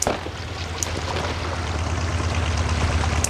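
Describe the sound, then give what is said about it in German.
A borrowed motorboat's engine drones steadily in a low hum over the wash of water at Malibu in the evening, growing slightly louder as it approaches; no one speaks. “Hört ihr das? Ein Motorboot.”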